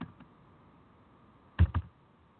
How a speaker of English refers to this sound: I know y'all don't want to listen to me typing and talking behind my breath and all that kind of stuff.